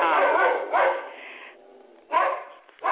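dog barking at someone

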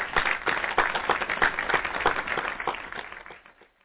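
applause sound effect

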